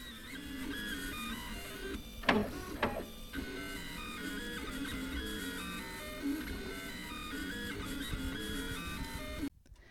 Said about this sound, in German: Ich könnte dem 3D-Drucker den ganzen Tag zuschauen, wie er arbeitet und Schicht für Schicht etwas Neues erschafft.